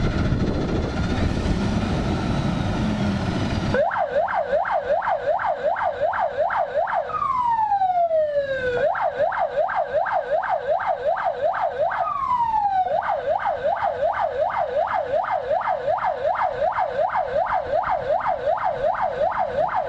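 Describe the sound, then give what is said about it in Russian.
An emergency vehicle siren is switched on together with flashing lights and cycles loudly in a rapid yelping warble, broken twice by long falling wails. A few seconds of broad rumbling engine noise come before it starts. “Взревела сирена и включились проблесковые маячки.”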